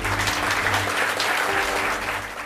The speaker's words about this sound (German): Und insofern nochmal einen großen Applaus an alle Spender.